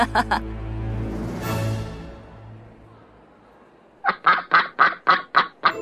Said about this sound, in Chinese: 哇，是鸭子！ 呱呱，你们好，我是鸭子。